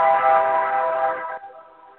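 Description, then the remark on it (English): A loud, sustained train horn blares in the streets of New Orleans with a rich chord-like tone, cutting off sharply after a second or so and leaving a fainter lingering tail. No voices are present. “Shit, watch out for that train.”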